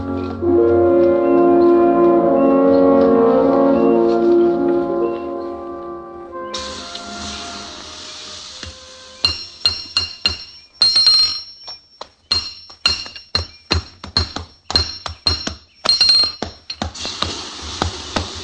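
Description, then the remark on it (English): A blacksmith hammering on an anvil at a blacksmith shop: after a stretch of sustained tonal music, a quick, uneven series of loud metallic clangs rings out, each strike bright and high-pitched with a short ringing tail. “We had to head for the nearest blacksmith shop, so we turned north.”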